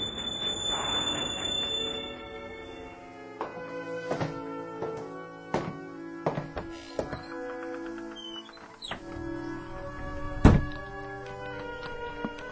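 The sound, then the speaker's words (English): A train slows to a halt at Willoughby station, steel wheels squealing at first, then a series of heavy clanks and thumps from the cars, with one loud jolt near the end. No one speaks. “Stop the train.”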